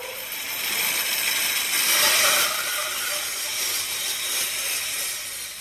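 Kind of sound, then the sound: tool, saw running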